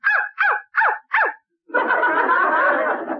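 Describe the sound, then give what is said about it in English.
A dog named Rover barks four times in quick, evenly spaced succession, loudly, as its answer to 'what's 2 minus 2?', followed by a sustained wash of dense crowd noise, like an audience laughing. “2 minus 2 is 4. Well, you know how dogs love to exaggerate.”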